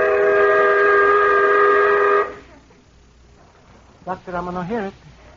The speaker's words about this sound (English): That whistle almost blew my brains out.